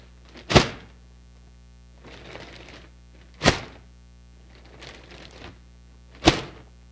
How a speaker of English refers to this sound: And this device is described as an air vortex cannon. And you can tell by the effects if it's working or not.